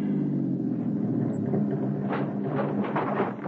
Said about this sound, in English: Keep the engine idling to cover any sounds you might make.